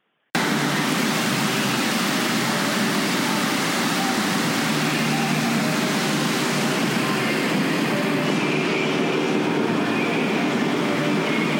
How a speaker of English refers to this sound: If those tranquil sounds of running water are familiar to you, then you probably know that I'm at Aria.